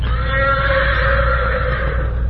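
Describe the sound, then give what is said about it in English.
Morato's black horse whinnies in one long, loud, steady call, answering the challenge of another horse, Silver. Its strained, harmonic cry holds for about two seconds with no talking. “Morato's black horse heard him and answered his challenge.”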